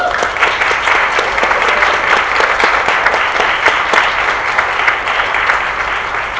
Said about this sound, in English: I think you made the right choice. And I give you a round of applause.